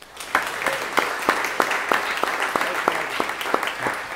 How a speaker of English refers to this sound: So if you would agree with accepting them as church members, if you would just applaud.